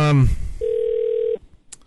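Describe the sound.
A short burst of speech, then a single steady electronic ringback tone on a phone line as a caller is patched into a broadcast, holding for under a second before cutting off, followed by a faint click.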